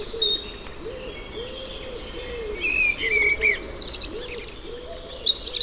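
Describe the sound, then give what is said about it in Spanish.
A cuckoo calls its low two-note phrase over and over, while thinner, higher birdsong twitters and trills in the background of an outdoor chorus. “Cuco.”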